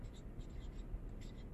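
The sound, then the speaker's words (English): Marker squeaking and scratching across a board in short strokes as a mathematical generating function for dice is written down, fairly quiet, with soft low background rumble and no talking. “I'm going to write down the generating function.”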